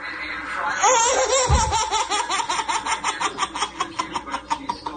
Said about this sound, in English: Oh, pardon. She farted. Come on. I said to Omar, I said, a baby laughing hysterically and farts, I don't need much else. No, that's the perfect clip.